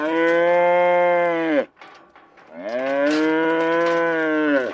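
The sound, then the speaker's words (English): Two long, loud cow moos, each a sustained bellow, separated by a brief pause filled with faint background rustling; no one speaks. The cows are being vaccinated at a ranch by a rancher who is also a veterinarian. “I found him later vaccinating cows up at Phil Dart's ranch.”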